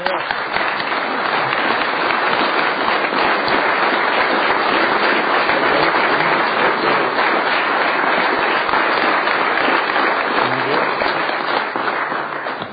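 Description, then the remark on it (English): Sustained applause from a large group in the Senate chamber fills the whole stretch, a dense, steady wash of many hands clapping at an even loudness with no pause, swelling slightly near the start and tapering at the very end. “So, members of the Senate, let's give Gene a well-deserved applause.”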